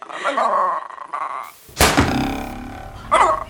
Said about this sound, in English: This week, I would like to hear the sound of a young liberal's face being slapped very hard by a hunted fox.